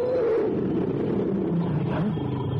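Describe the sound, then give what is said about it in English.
A tiger roars in a long, sustained, rumbling growl, loud, with a deep throaty rasp that wavers in pitch across a couple of seconds. No one speaks. “A tiger and a gun.”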